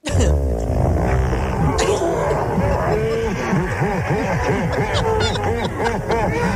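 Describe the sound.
A long, loud fart with a low, droning, groaning tone that wavers in pitch over several seconds, almost like a cow's moo, with voices mixed in underneath.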